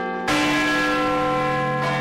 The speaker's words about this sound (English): We will also be sounding bells for New Year's Eve, because you can't have New Year's Eve without the sound of Big Ben.